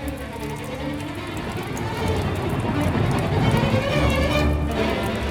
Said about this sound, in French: Trop tard, le grand vent se lève et flic-floc, la pluie tombe déjà. Vite, il faut ramasser papier, aquarelle, pinceau et courir, se mettre à l'abri.